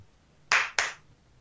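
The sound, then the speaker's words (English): Two sharp hand claps in quick succession, loud, each with a crisp attack and brief decay, made in an office to trigger a novelty sound-activated clapper, against a quiet background with no talking. “You know, it's just clap on, clap off.”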